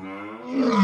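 A monstrous beast's roar, like a cow with a dinosaur's head, deep and harmonic. It swells louder and rises in pitch over a single short burst, alone, with no talking.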